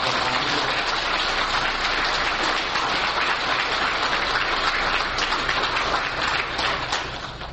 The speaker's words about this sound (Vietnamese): Thưa quý vị, các chư công đức xin hoan hỷ cho một tràng pháo tay.